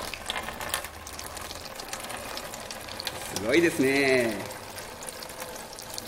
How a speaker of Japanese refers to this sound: じゃあ実際にですね、やってみましょう。さあ、それでは岩の上にですね、雨を降らしてみましょう。